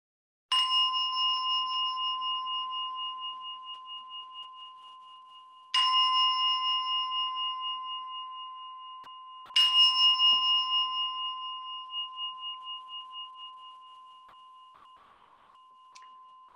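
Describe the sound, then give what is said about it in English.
A bell is struck three times at unhurried intervals, each clear metallic tone ringing on and slowly fading away. No voices are heard. “In a moment, there'll be a bell, and I'll invite you to let the bell be the object of your awareness and mindfulness.”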